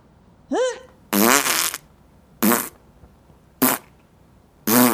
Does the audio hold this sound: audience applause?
no